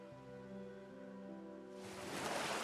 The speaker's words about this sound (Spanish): Por la mañana, las suaves olas bañan la arena repleta de guijarros.